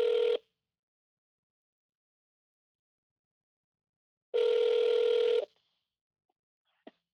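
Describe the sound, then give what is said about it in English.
A telephone rings on the line as a call is placed to a pastor's phone: a brief tone burst, a long pause, then a second steady electronic ring, followed by a quick click as the call is picked up. No one speaks. “So we'll give him a call.”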